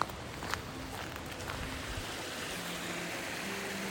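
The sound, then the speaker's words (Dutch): Water runs and trickles downhill near old gold mines in Wales in a steady, continuous rush, even in loudness throughout, with no voices and only a faint knock early on. “En er is overal water wat naar beneden komt.”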